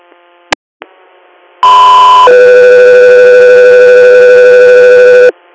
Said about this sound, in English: 3 Air, stand by for tones.